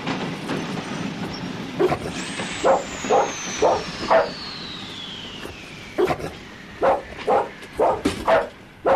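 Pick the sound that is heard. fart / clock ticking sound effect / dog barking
dog barking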